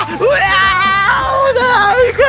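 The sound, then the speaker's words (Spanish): Loud, desperate screaming from a woman in a bathroom, high-pitched and wavering, sustained almost without pause for a couple of seconds with a few brief breaths between cries. “Terrible los gritos.”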